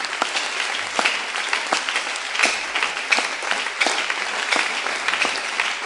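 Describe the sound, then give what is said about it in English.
An audience claps steadily in sustained applause to give glory to the Lord, many hands at once forming a dense, continuous patter with occasional louder bursts, with no talking over it. “Let's give back the glory and clap to the Lord.”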